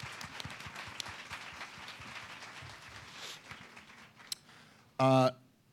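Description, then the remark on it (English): A crowd at a Policy in a Pint event gives the guests a steady round of applause, a dense crackle of many hands clapping that fades slightly, ending with a short, loud burst of a voice or cheer. “So A big thanks and a round of applause for all of our guests for coming tonight and being part of Policy in a Pint.”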